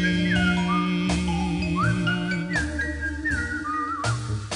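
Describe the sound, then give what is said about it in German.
A bright whistled melody glides between notes over a steady instrumental backing with a bass line and soft percussion, the whistle clear and prominent for several seconds. “Ich geh durch die Straßen und pfeif meine Melodie.”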